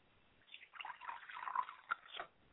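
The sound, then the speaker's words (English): Liquid is poured as a libation toward the West in a short, quiet stream, trickling and splashing for about two seconds with a couple of distinct drips near the end. “I like to pour libations to the West, and I say Ashe.”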